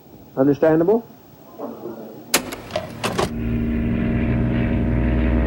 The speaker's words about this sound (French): Le 17 novembre, en début d'après-midi, un petit avion décolle de Georgetown pour Port Kaituma, à 2 heures de vol de la capitale guyanaise.